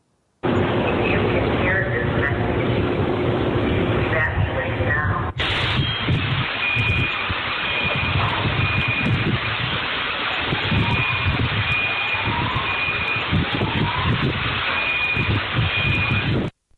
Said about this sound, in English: And that was a sound from the moment of the explosion that occurred this morning. Police had begun evacuating residential buildings in the neighborhood located at 2nd Avenue and Commerce in Nashville when the RV exploded.